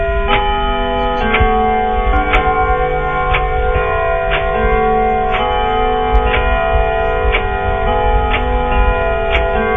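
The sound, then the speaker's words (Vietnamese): A house clock strikes once at half past eleven. Its chime rings out and hums on in a long, sustained tone, while a steady tick sounds about once per second underneath, fairly loud, with no one speaking. “Đồng hồ trên nhà lại gõ thêm một tiếng.”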